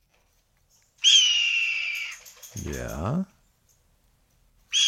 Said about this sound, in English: But no, my friends, that majestic screech is from the red-tailed hawk.